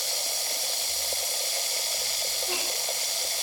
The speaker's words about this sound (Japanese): さあ、次は炭酸水でお耳を洗い流していきますよ。シュワシュワーとした感触がとっても気持ちいいですからね。ここの蛇口をひねると、ほら、炭酸水が出てきましたよ。